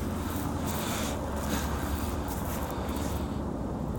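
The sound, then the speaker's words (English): Two helicopters flying overhead, heard as a steady, loud low rumble with a broad whooshing hiss that continues unbroken through the whole clip, with no voices. “Oh, two helicopters.”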